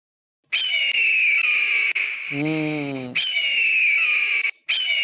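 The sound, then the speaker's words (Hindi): A kite (bird of prey) calls with a shrill, piercing whistle, played as a clue in a sound-guessing quiz: long sustained high notes, broken midway by a lower, wavering cry, then returning loud and steady. No one speaks. “चील। और इसी के साथ इनका जवाब भी दुरुस्त हो गया है।”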